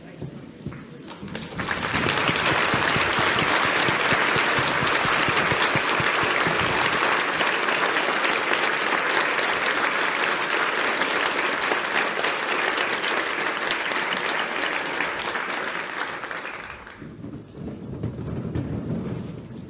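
Sustained audience applause, a dense wash of many hands clapping that swells after a quiet start, holds steady for about fifteen seconds, then fades away, as the audience rises to applaud all of the day's award winners at an award ceremony.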